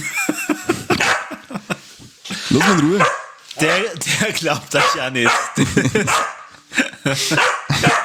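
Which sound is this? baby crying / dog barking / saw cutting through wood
dog barking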